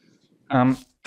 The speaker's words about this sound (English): sorry, I have a bit of a cough.